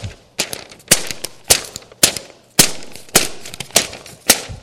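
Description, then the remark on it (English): A regular 20-pound sheet of cheap copy paper being yanked and pulled apart by hand, giving about ten sharp, crackly snaps in an uneven rhythm, each a loud papery pop with a brief rustling tail. No one speaks. “It's a lot of pulling. Right? I had to pull hard. I had to yank that thing 10 times.”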